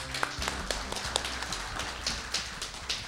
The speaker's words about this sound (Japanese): 皆さん大きな拍手でお迎えください。